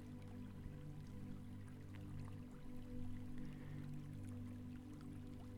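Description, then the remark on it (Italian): Soft, continuous flowing water like a gentle stream, a steady low wash with tiny scattered trickles and drips. It is quiet and even throughout, with a faint low hum underneath and no voices. “nota com'è per te fermarti ed ascoltare il flusso dell'acqua.”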